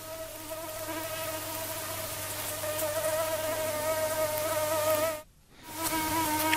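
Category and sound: insect, mosquito buzzing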